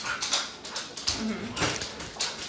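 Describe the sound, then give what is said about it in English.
Dogs whimpering in a run of short, high-pitched whines that come in quick bursts, with one lower, drawn-out whine partway through, all at a moderate level. “They're dogs, they're going to come.”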